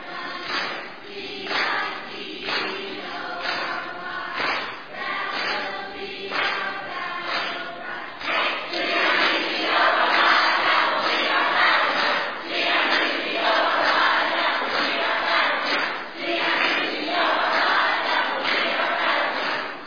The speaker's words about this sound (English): All right. Let's hear it from the green team. Come on, green team. Give us a good we tied tonight cheer, okay? You guys did a great job coming down to the wire.